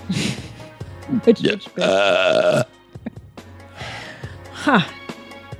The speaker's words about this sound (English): That was a hearty burp. What was in that one? That had some feces. Little fishes in there? Yeah. Yep.